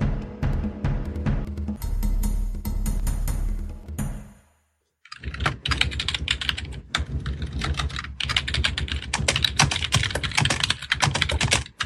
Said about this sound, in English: You can hear the typing. Yeah, I know. I'm all trying right. To get people to say stop. That's a modder hard at work, that is.